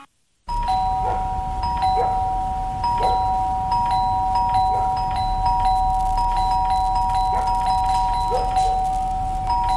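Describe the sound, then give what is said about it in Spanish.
A doorbell rings repeatedly in a Sodimac advertisement for its Cyber sale, its steady electronic tone held over a continuous low rumble, with short knocking or tapping accents recurring throughout. No one speaks. “¿Escuchaste eso? El cyber de Sodima que está tocando a tu puerta y tu casa lo sabe.”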